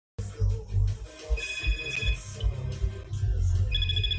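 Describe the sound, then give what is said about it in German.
A mobile phone rings with an incoming call, its bright electronic ringtone sounding in repeated bursts over a steady low rumble of background noise, with no one talking. “Irgendwie scheinen die Anrufe weiterzugehen.”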